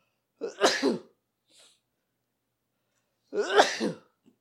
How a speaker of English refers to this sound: I'm about to sneeze.